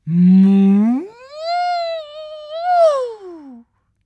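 A voice imitates the cow Mica mooing her morning greeting on a sunny summer morning: one drawn-out, tonal moo lasting about three and a half seconds, starting low, sliding up in pitch, holding, then falling away at the end.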